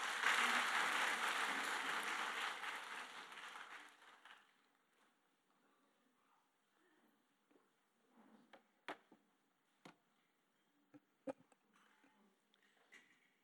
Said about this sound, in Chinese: 领导者的培育，我们掌声欢迎，谢谢。